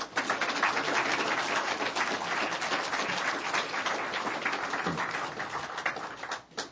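An audience applauds in a dense, steady crackle of many hands clapping at once, holding a fairly even level for several seconds before thinning out and fading at the end.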